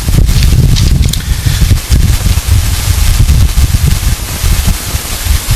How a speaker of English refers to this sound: today's a little bit nippy, a little windy, and but we thank you that it's not hot.